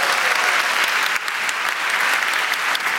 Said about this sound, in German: Das ist richtig. Applaus.